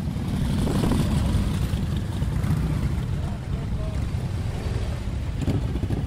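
A group of Harley-Davidson motorcycles rumbling away as riders leave a rally site toward the exit on a sunny Saturday afternoon, a dense, deep engine roar that holds steady and loud throughout, with slight wind-like hiss above the low throb.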